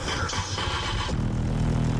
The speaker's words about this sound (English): What if there was no place? Or the only place had a background of traffic sound? Had a little music from a car window?